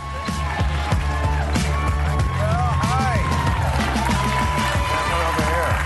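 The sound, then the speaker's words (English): The studio audience of HBO's Real Time with Bill Maher cheers and applauds steadily, a dense wash of clapping mixed with shouts and rising whoops, staying loud and unbroken throughout. “The crowd is in a great mood today.”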